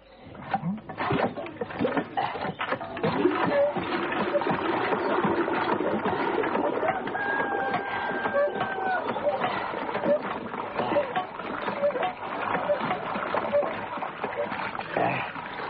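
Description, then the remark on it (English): A hand water pump is worked by a thirsty traveller with a steady rhythmic creak while water splashes and gushes continuously, fairly loud, with faint squeaks from the handle. “Well, there's the pump. Help yourself.”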